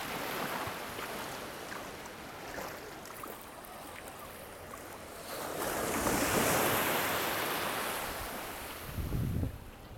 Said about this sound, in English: Nice waves.